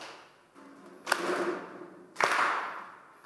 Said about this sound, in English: Come on, just clap your hands with me.